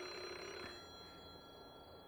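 A telephone rings with a steady electronic tone, fairly quiet and continuous, with no voices over it.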